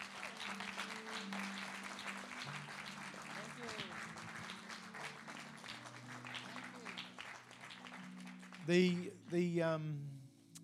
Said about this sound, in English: And so we welcome you. Let's stand up, guys. Let's give her a big applause.